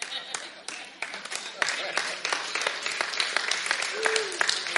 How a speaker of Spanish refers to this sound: Not everybody's clapping. No todos están aplaudiendo.